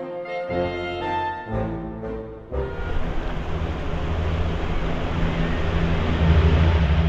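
Lancaster bomber engines taking off at Durham Tees Valley Airport: a deep, humming multi-engine drone for a couple of seconds, then a sudden surge into a loud, steady roaring throttle-up that keeps building, drowning out the crowd's cheers, with no voices.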